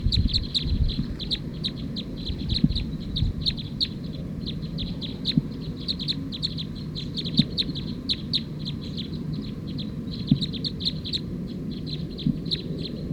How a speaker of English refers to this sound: So recording those last two birds were mixed up. That was actually bird 220 that was calling as 219.